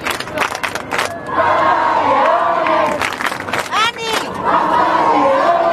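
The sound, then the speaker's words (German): A large crowd cheers and shouts excitedly, calling "Papa" as Pope Leo makes his first ride in the popemobile shortly before 9, people standing on chairs and waving flags; overlapping voices rise in loud calls and chants with whistles and sharp pitched cries, a dense roar of massed voices throughout. “Alle sind sofort auf die Stühle gestiegen, Fahne schwenken, Handy raus und dann die ersten Papa-Rufe.”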